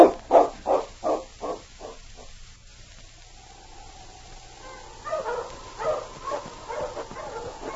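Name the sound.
dogs barking and whimpering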